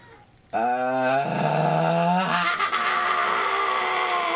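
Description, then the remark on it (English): A loud, drawn-out fake scream in reaction to YouTube Rewind 2018 bursts in after a brief quiet moment, starting as a strained, rising vocal wail and breaking into a harsher, ragged yell that holds steady to the end. “That was a fake scream.”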